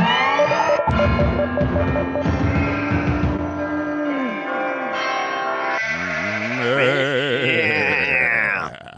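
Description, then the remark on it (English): A voice imitates a sheep with a long, loud, quavering bleat, its pitch wobbling and warbling as it drags on for several seconds with no other talk. “It's always so fun to do that sheep noise.”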